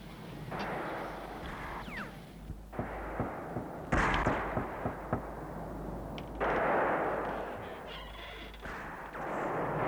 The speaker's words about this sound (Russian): А почему стрельба? Банды Вайчу грабят запертые магазины и покидают город.